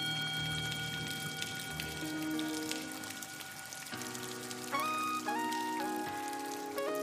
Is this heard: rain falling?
yes